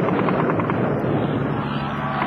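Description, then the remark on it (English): A loud, continuous roar of six low-flying RAF Mosquito fighter-bomber engines attacking SS troops with rockets, bombs and machine guns, a dense rumbling drone with a rapid pulsing texture early on, steady in volume throughout with no voices. “Mosquito fighter bombers! They're coming in very low.”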